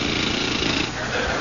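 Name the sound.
dentist's drill whirring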